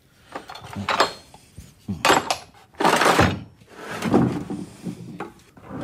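A hammer strikes stone during stone carving in a handful of hard, irregular knocks spaced about a second apart, some blows trailing into a rough, gritty scrape, with no voices.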